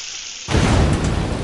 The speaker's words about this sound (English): Ah! Self-igniting tap water! Oh, fracking's an environmental nightmare!